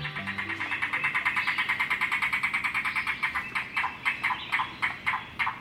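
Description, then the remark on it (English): A yellow-billed cuckoo calls alone: a fast, steady rattle of hollow notes that slows into a few widely spaced, gulping knocks. “The call of the yellow-billed cuckoo may sound a bit like a car engine struggling to turn over before revving to life.”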